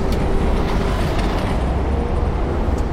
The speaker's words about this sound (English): Half were put in a space that was still happy and healthy, but involved 73 decibels of traffic noise being played.